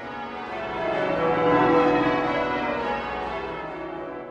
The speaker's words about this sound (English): The opening suggests the tranquil atmosphere of that last Christmas of peace. Once again, bells are the protagonists, and ringing the changes is a serious business.